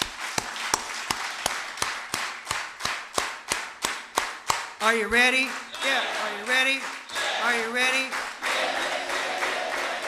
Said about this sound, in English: I think we should practice one time just to make sure. Let me hear you clap your hands.